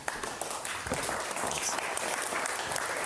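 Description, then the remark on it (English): A crowd applauds steadily to welcome a guest speaker, a dense wash of many hands clapping at once with crisp individual claps poking through, sustained at an even, moderately loud level throughout. “Oh my goodness, I get a round of applause.”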